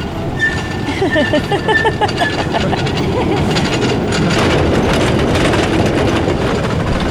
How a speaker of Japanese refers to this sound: いいですね、なんかこの音も可愛らしいわ、ね、 すごい木製のトロッコ列車、うん、 ね、 とっても可愛い。